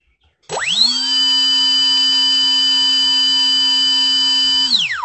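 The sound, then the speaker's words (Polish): The electric motor of a Jantar model aircraft, running without a propeller, spins up quickly into a steady, loud, high-pitched whine, holds constant for several seconds, then winds down at the end. No one speaks. “Tak pracuje silnik w Jantarze bez śmigła.”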